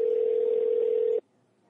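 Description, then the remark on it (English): A telephone call tone while calling a number in Canada: one steady, mid-low electronic beep holds for just over a second, then cuts off abruptly into near silence. No one speaks. “I have a missed call from him, so we're calling Canada, so but he's in Dallas.”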